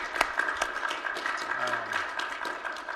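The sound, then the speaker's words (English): A church audience applauds steadily for a few seconds to thank two women who ran children's church and Bible memory over the summer, many overlapping claps forming a dense, crackling wash with a few sharper hand claps standing out, and a faint voice briefly underneath. “I know we've been clapping for you guys already, but we're going to do it again because I'm so grateful for you two ladies.”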